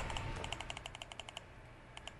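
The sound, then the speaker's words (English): Rapid, repeated clicking of a computer mouse and keys while playing the computer game Torchlight, a steady run of crisp taps over a low background hum, pausing briefly before a few more clicks. “No other game would you ever play where there's that much clicking. It's just like constant clicking.”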